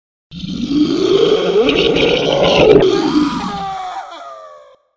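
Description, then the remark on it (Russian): A chimera's loud, guttural roar rumbles continuously for about four seconds, rough and growling, then trails off into a strained, descending cry before cutting out. “Последнее, что я услышал перед тем, как уснуть навечно, – рев химеры и истошный крик брата.”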